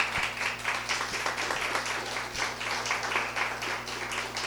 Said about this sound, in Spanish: Ahí está, quiero un aplauso para él.